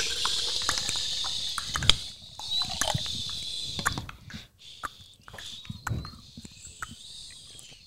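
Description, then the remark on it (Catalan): A river rushes steadily over stones in a continuous bright babble, with scattered splashes and gurgles breaking through the flow; no voices, just the water. “El riu sona dia i nit, amb el seu xiu-xiueig de pedres.”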